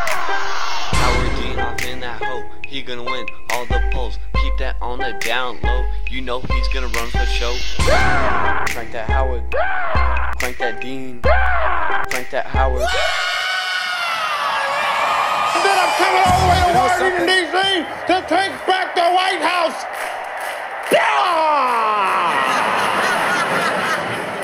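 A shouted yell, sampled and put into a song, is chopped and repeated in a rhythmic loop over a thumping electronic beat, then gives way to a raw, excited shout with crowd noise behind it.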